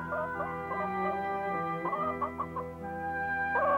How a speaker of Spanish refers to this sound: ¡Vamos, vamos! ¿Por qué no ponen huevos como se supone? ¡Es mejor que lo hagan si no quieren ser gallinas fritas!